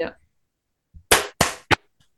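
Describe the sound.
A quick series of three sharp, loud hand claps in succession, made to mark a sync point on a recording, each a crisp slap that fades fast, following a brief moment of speech.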